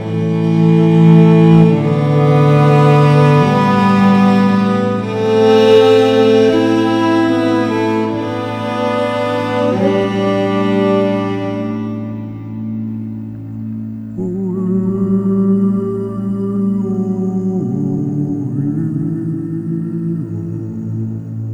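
Santur music, a selection from the Hamsidwani raga of Indian classical music, played on the santur, which resembles a hammer dulcimer: struck, shimmering metallic strings ringing over a steady low drone, with bright flurries of notes that gradually thin out into slower, sustained tones.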